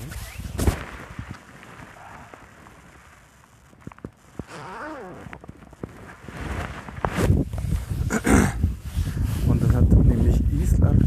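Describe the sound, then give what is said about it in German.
Gusty wind buffets the microphone outdoors with low rumbling bursts that grow stronger toward the end, mixed with sharp clicks and rustling as a jacket is closed; a voice speaks intermittently. “Aber jetzt muss ich mal kurz meine scheiß Jacke zumachen. Es ist doch windig hier.”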